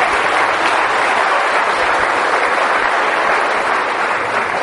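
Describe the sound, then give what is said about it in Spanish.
Steady, dense audience applause for young people who have given their testimony at a religious gathering, a continuous wash of many hands clapping at an even, fairly loud level with no voices on top. “Bueno, vamos a darle un aplauso a esta juventud que nos da testimonio.”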